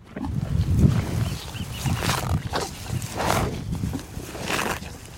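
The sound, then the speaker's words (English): Cows moo in deep, drawn-out lowing calls outdoors in the pastures of Point Reyes, kept for the beef and dairy ranches in the national park; several overlap, with breathy snorting bursts and open-air background noise and no talking. “The cows.”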